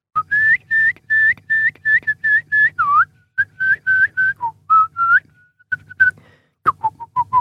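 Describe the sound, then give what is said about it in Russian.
Sygyt, the upper style of throat singing: a piercing, whistle-like overtone rises over a low buzzing drone, shaped into a rapid string of short, loud, repeated notes, then a few sliding, falling ones at the end. “Это верхний стиль горлового пения.”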